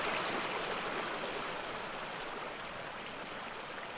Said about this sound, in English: I imagine that the voices of the river were different before the hurricane, though I didn't know them then.